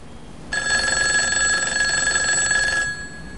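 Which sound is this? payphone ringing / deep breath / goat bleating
payphone ringing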